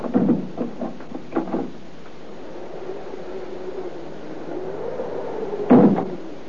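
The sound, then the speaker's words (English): A little old man in a cloak turns a key in a lock: a few sharp metallic clicks and rattles, then a long, low creak as he pushes a door panel and the door swings slowly open, finished by a dull thump. No one speaks. “After a moment, he applied pressure to one of the door panels, and the door opened, and he went in.”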